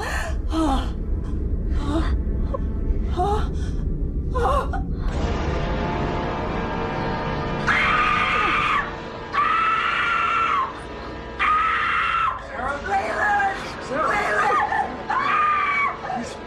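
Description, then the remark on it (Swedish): A woman screams in anguish, loud, in repeated drawn-out wails broken by sharp gasping sobs, with no other talking: Laura Palmer's mother screaming in a scene by Laura Palmer's bed. “Och liksom hennes mamma sitter ju där och skriker.”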